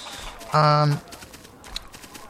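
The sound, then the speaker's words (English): One loud, buzzy chicken cluck lasting under half a second, with a low nasal tone, from a video game's audio, panned to the left, followed by faint background noise and a soft click. “So, like, for instance, you can probably hear the chickens are off to the left.”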